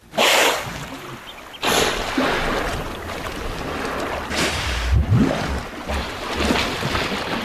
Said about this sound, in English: Hippos exhaling, ears flapping as they do so.